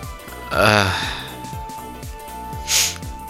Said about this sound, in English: And sorry if I keep sniffling here. I got like a cold going on here. I'm trying to... I seem to be catching a lot of stuff going around here.